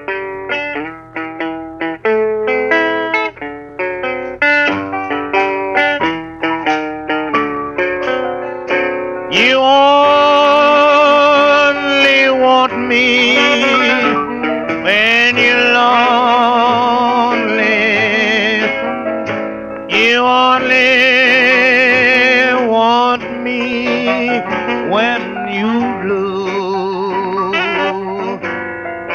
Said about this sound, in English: And he's singing one for you right now.